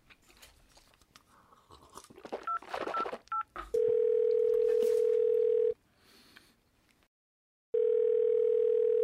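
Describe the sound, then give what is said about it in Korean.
Crunching noises and a few quick keypad beeps as someone places a phone call, then a loud, steady telephone tone that holds for about two seconds, cuts off into silence, and resumes. No one speaks. “그래서 전화 한번 해.”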